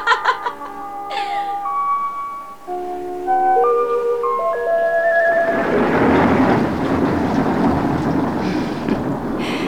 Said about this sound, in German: Wie herrlich es donnert.